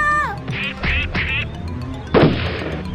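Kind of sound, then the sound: bird, ducks and geese quacking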